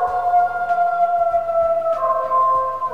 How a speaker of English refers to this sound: That is a wolf in Yellowstone, and we'll be hearing more from that wolf later.